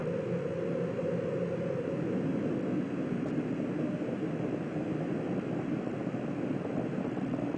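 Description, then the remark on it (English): Space Shuttle Challenger's main engines roar during ascent shortly after liftoff on the 25th shuttle mission, throttling down to 94%: a loud, steady, unbroken rumble with dense low-end power and a hissing wash over the top, heard alone with no voices. “Engine's beginning throttling down now at 94%.”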